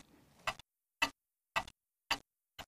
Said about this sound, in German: Nachdem er die ganze Geschichte kannte, herrschte einige Sekunden eine erdrückende Stille im Raum. Nur das Ticken der großen Pendeluhr war zu hören.